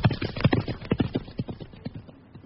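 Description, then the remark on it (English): Quick, steady clip-clop of horse hooves as a horse is ridden, in a rapid trotting rhythm, fairly loud at first, then growing a little softer and more scattered toward the end. “Quick, up on my horse. Now let us ride!”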